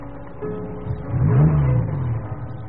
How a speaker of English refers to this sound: There's a car coming up the drive